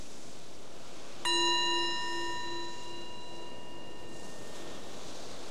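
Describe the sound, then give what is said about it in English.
A single meditation bell is struck once, its clear metallic tone ringing out and slowly fading over a few seconds against a soft, steady background hiss. “The bell is our invitation to let go of what's going on before and just be right here, right now.”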